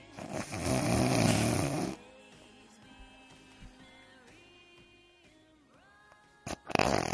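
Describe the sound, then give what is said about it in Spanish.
A person imitates snoring: one long, loud, rasping snore, then a quiet pause with faint background tones, and a short snorting breath at the end. “Si duermen con alguien que de repente está roncando, es más, les voy a hacer la imitación, así.”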